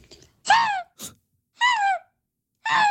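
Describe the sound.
A person imitates a fox with three loud, harmonic yelping cries, each a strained, descending wail, separated by pauses, with a short sharp breathy burst between the first two.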